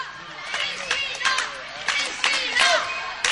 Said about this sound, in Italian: Com'è il tifo qua in Borgo Venezia? Vedi anche tu che tifano di più gli avversari.